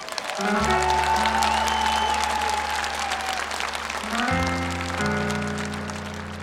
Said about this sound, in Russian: Вот, казалось бы, пустячок, но на самом деле старым известным песням и дурак похлопает. А когда новым песням аплодируют, это вот всегда приятно.